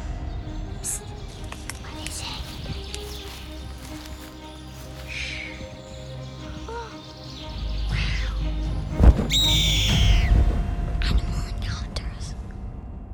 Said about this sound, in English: Yep, I'm talking about a new animal encounter story. Let's roll the jingle.